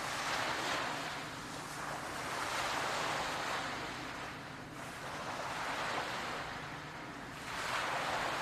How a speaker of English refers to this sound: You can see some peaceful waves as they break the shore. These peaceful waves gently lapping the shore, washing gently into the sand.